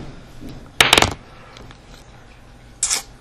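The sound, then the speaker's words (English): A small game token coin drops onto a hard tabletop with a quick cluster of bright metallic clinks and a short rattle, followed by a softer clink about two seconds later. Fairly loud, no talking. “I found a gold doubloon.”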